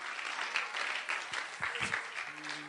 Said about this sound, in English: Listen, I know by the clap and the response that we're not there yet. I get that.